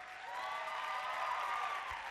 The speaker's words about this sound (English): Her cheer was louder than yours.